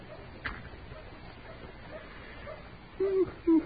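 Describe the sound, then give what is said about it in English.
A dog whimpers twice in quick succession, two short, thin whines rising out of a quiet, hissy background near the end. “You dog sure ain't very lively today, is it?”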